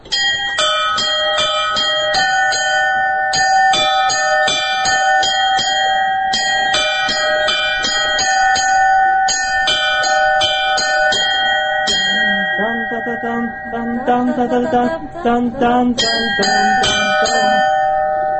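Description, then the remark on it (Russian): Church bells ring out a simple, cheerful melody, struck in quick rhythmic runs with long ringing overtones layered beneath, loud throughout. “Здесь уже зависит от того, какие колокола. Удастся ли из них подобрать какую-нибудь мелодию.”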